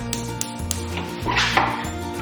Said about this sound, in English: I'm just gonna turn on the gas.